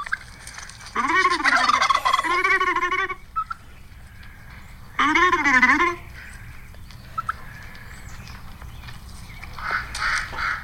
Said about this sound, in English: Hang on a second. That was a duck. I know the duck wanted to get in on it. The duck was also talking crap.